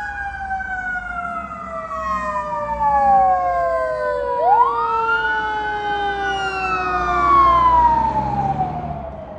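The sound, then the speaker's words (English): A fire truck with its lights on wails its siren loudly and steadily as it goes onto the highway, the rising and falling tones sliding lower as the vehicle passes by, with a low road rumble underneath and no voices. “Was a fire truck, in case you didn't notice, going onto the highway.”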